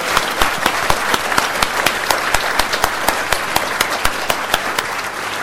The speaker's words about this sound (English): Can you just join with me and give them all a huge round of applause for what they've done here today?